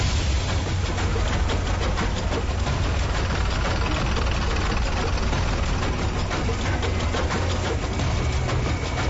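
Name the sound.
bus engine idling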